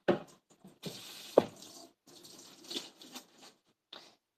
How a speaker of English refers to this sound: And I'm gonna clean and grab my sponge. Put some water and soap on it first.